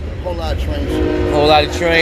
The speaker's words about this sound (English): Oh, shit. We got the train going through. Big up to the train. Making a lot of fucking noise.